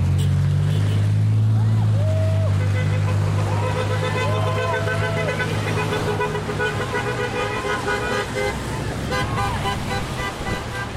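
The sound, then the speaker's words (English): Passing cars honk their horns in support at an intersection in Ketchikan, a few short toots followed by longer held blasts, over a steady low rumble of idling and passing engines with some voices and cheers mixed in. “If the intersection here in Ketchikan is a decent sample size, we've got nothing but honks and cheers and pumped fists, not a single middle finger, all support.”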